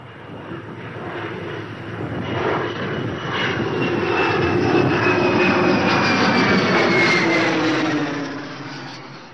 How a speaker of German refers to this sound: Plötzlich heulten die Turbinen auf und das Flugzeug begann zu rollen. Immer schneller, bis es abhob. Und dann flog es hoch in die Luft.